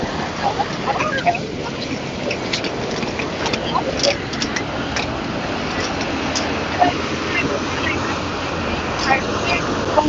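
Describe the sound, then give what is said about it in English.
Busy street in central Dublin, walking past Trinity College, with a steady rumble of buses and other heavy traffic passing in both directions, scattered clicks and footsteps of people walking on both sides of the road, and a murmur of passing voices in the background. “Buses going in both directions.”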